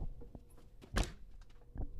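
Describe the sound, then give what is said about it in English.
A heavy door thuds once near the middle, surrounded by softer knocks and faint scraping bumps, as if something is moving just outside. It is fairly quiet overall, with no voices. “Suddenly, he heard the sound of his door and a scraping outside of it.”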